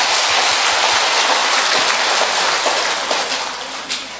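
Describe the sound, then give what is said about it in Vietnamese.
A crowd claps in a dense, steady round of applause congratulating a man on taking Saint Gaetano as his patron saint, loud and even at first, then gradually thinning and fading toward the end. No one speaks over it. “Xin chúc mừng như anh nhận thánh Gaetano làm bổn bạn, một tràng pháo tay.”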